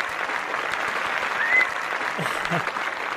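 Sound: applause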